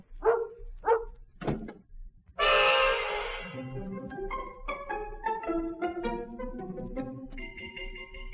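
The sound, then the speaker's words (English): A big Alsatian dog named Bruno, about 130 pounds, barks loudly three times in quick succession, followed by a sharp noisy crash like a door, then music starts playing. “So there I was, left with 130 pounds of sensitive Alsatian”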